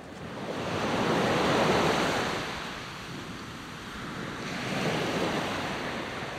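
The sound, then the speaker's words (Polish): Ocean waves breaking and washing in, a broad rushing surge that swells, recedes, then builds again with a second wave. Steady surf with no voices. “Wyobrażamy sobie wschód słońca nad oceanem.”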